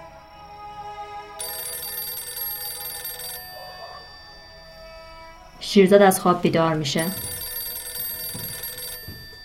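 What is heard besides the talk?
telephone ringing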